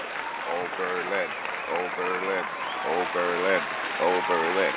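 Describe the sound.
An audience applauds and cheers steadily for about five seconds, a dense wash of clapping with raised voices whooping in repeated bursts on top.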